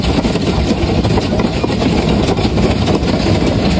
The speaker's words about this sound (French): Alors ça, ce sont des grêlons qui s'abattent du côté de Roissy sur la carlingue d'un avion. Et c'est un son qui a été enregistré cette nuit.